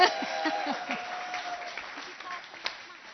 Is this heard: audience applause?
yes